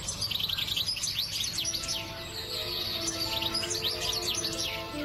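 A songbird sings a steady stream of bright, rapid chirps and trills over a low background hum with no voices.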